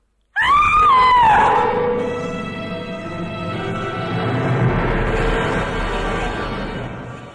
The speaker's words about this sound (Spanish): Cuando el automóvil se estrelló y se deshizo en los dientes de las rocas y en el torbellino espumoso del mar, ella, María Eugenia, profirió a su vez un grito.